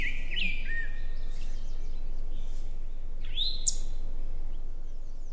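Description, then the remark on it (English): A rose-breasted grosbeak sings a few bright, squeaky whistled notes, one early and one near the end, over a steady low rumble of outdoor background noise. “If we pause for just a moment, we can actually hear the rose-breasted grosbeak quick.”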